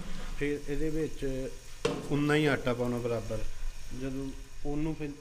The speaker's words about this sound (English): He scoops out about a cup of ghee into the pan to melt.